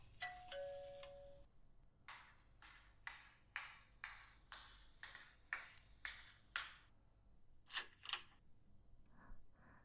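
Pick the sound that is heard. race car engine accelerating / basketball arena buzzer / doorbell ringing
doorbell ringing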